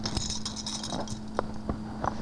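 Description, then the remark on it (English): A bunch of keys rattles in quick, irregular metallic clinks and jingles, with no voices, over a faint steady hum. “Do you want these keys?”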